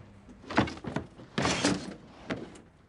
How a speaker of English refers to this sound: On the third tug, the drawer comes out completely.